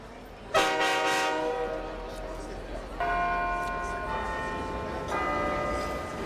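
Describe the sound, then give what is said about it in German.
The last train at a railway station: three loud, ringing horn-like tones sound a few seconds apart, each fading slowly over a steady background rumble. “Dies ist das Ganze und der letzte Zug. Der letzte Zug. Wir befinden uns also auf einem Bahnhof.”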